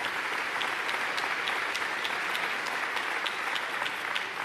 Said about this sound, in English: This unique partnership is led by Judges Susan Egan and Lisa Block Rodwin. Let's give Judge Egan and Judge Rodwin a great big round of applause.